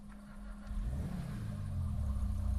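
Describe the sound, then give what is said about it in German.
A video game car engine rumbles steadily and rises slightly in pitch as the car drives automatically out of a garage, a low continuous drone with a faint whine, heard alone without talking. “So, wenn ich jetzt ins Auto einsteige, fährt er automatisch aus der Garage heraus.”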